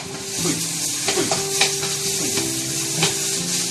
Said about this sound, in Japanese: あんまりジュージューやめな、なんだ。ほい、ほい、ほい。